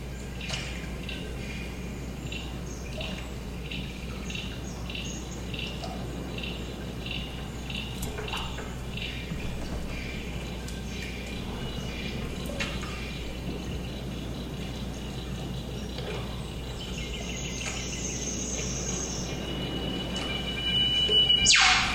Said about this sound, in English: It's a spacious recording. You first hear the scale when a bird flies through and its call is echoed by large structures in the environment. A ring of hills, I think, and a lake, definitely.